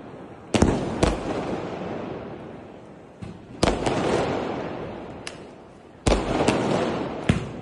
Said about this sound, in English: Fireworks lit up the sky in the Indian capital last night, but they came at a huge environmental cost.